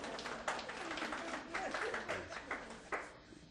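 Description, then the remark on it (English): An audience applauds the speaker's wife for a few seconds, a dense wash of many hands clapping at a steady level with a few sharper claps standing out before it thins slightly at the end. “My wife, a little applause for our...”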